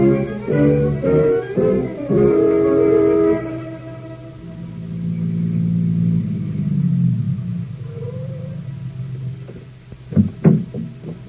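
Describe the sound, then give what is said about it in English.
A car engine rumbles and drones steadily as the vehicle drives along toward the waterfront, the low hum rising and settling, followed by a few sharp clunks near the end. “You can sleep in the car on the way to the waterfront.”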